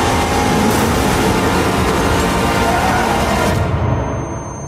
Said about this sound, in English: In that trailer, all you hear is the blare of V12 engines with just that one line of dialogue, which really, for me, just sets the tone